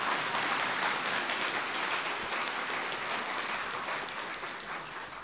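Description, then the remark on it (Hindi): A crowd applauds steadily, a dense, continuous wash of many hands clapping at once, holding strong for several seconds before easing off slightly at the end, urged to clap loudly to welcome people from Assam. No one speaks over it. “दौड़ी तालियां क्या ठंडी ठंडी बजा, जोर से बजाओ ना।”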